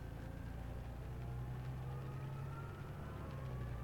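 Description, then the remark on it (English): A car engine idles while stuck in traffic, a steady, low drone humming without pause at a constant level throughout, with no voices. “And we're stuck in traffic, which is super fun.”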